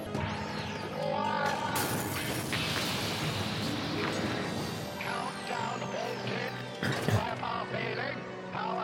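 A sharp smash as a hand is brought down on top of a Dalek and breaks one of its bulbs, cutting through a loud, dense mix of roaring, clattering action noise and raised voices, with another hard crash near the end.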